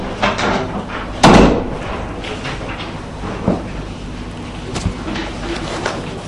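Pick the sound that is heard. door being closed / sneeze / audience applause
door being closed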